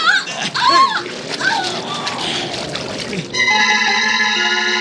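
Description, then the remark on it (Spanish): A loud splash of a boy falling into the sea from a flimsy rowing boat rocked by a wave, followed by churning, sloshing water, with a steady tonal sound rising near the end. A voice may cry out briefly at the start. “ha caído al agua cuando una ola del mar sacudió el endeble bote.”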